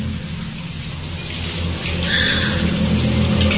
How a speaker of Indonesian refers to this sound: Dan tiba-tiba, ya Tuhan, terdengar shower kamar mandi ini menyala sendiri.